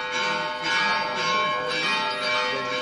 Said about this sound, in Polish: Z lotniska Benedykt XVI przyjechał do prawosławnej katedry świętego Jerzego w dzielnicy Fanar. Powitał go dźwięk bijących dzwonów.